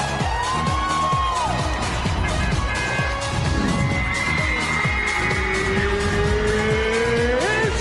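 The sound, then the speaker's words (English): Racing car engines in a video game rev and whine continuously with sharp tire squeals sliding in pitch, loud and busy, with a few faint crowd-like sounds underneath. “He got ran over by a car.”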